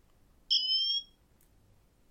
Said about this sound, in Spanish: una que se llama Sirena, que es pues, para hacer sonar el reloj